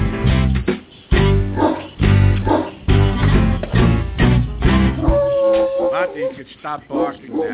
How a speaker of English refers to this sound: Stop barking now. The song's over.